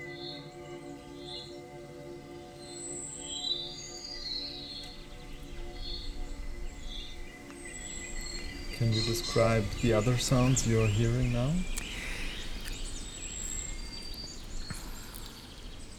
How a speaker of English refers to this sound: There are several birds singing. And some occasional movement in the trees.